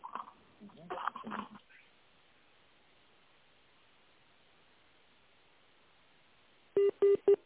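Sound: touch-tone telephone dialing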